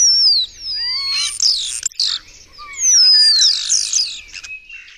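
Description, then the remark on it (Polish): A common starling sings: a jumbled stream of sliding whistles, squeaky chatter and rattling clicks in two long bursts, with no talking. “I owszem, papugi potrafią naśladować ludzkie słowa, dźwięki, które my wytwarzamy, ale spośród gatunków, które u nas występują, to takim gatunkiem, chyba najlepszą papugą, to jest szpak.”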